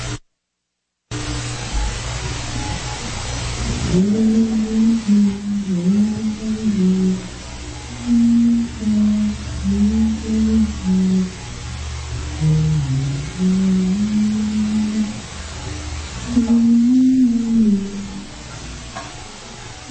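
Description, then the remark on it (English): A woman hums a slow, wandering melody at moderate volume over a steady hiss of background noise, with faint shuffling movement underneath. “It's a woman humming, and oh yeah, I can hear movement clearly in the background, as though she's walking around a room humming.”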